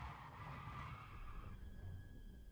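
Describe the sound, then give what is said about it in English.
Car tires screech in a sustained squeal for about a second and a half over a low engine rumble as the car turns around, then the noise settles into a steadier whine. No one speaks. “Mom, turn the car around!”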